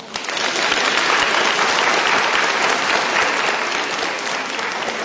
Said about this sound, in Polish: Was, kochani, witamy naszymi gorącymi, dziecięcymi oklaskami.